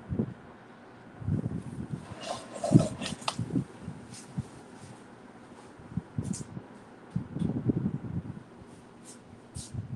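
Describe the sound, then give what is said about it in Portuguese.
An electric fan runs, a steady airy hiss broken by irregular low, gusty rumbles as moving air buffets the microphone. No one speaks. “É o ventilador?”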